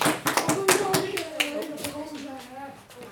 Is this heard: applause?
yes